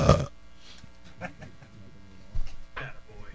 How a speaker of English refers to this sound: I burped.